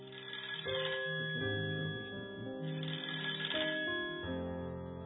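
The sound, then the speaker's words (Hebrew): A telephone in a home rings with a melodic electronic ringtone, a run of stepping tones repeating steadily for several seconds, fairly loud, with no voices. “המחשבות המעניינות נעצרו פתאום, כי את השקט שבבית גזר צלצול טלפון מעצבן.”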